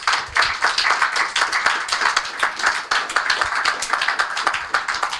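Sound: audience round of applause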